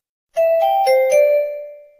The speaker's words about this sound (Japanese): なお、ペン本体にマイクロ SD カードが挿入されていないと、メモリーカード警告音。